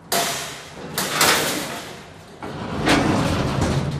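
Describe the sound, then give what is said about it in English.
Heavy metal doors of a mine cage elevator rumble and scrape as they slide open, with a sharp clank near the start and another loud grinding surge toward the end, noisy, no voices. “We open the doors. So this is the cage.”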